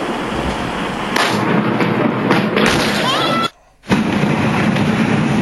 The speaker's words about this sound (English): This is the actual explosion taking place there in China. Just unbelievable.